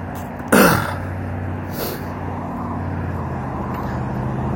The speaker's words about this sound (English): Cars and people.